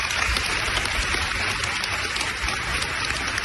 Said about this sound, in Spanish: Es el aplauso y el homenaje que se ha escuchado hoy en ese funeral.